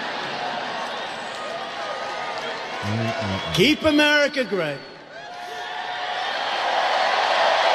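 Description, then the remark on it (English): A large crowd cheers at a rally in a loud, steady roar. A single voice calls out a short phrase partway through, then the cheering swells again toward the end. “I thought you had it won, and then I heard this cheer.”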